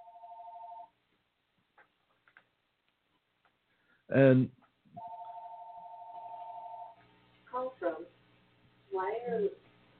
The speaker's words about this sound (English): Okay, the phone was ringing in here.